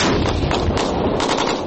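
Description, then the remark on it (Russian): Loud, continuous roar of shelling and gunfire in the city of Luhansk at 4 a.m. on 2 June 2014, with rapid overlapping bursts and booming explosions blending into a dense wall of noise throughout, and no voices. “Где-то что-то взрывается,”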